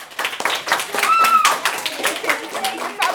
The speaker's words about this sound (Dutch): Hey, applaus!